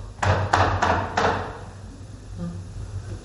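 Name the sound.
knocking on a door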